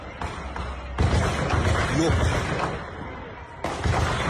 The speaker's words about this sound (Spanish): Dios mío. Ese sonido son tiros reales.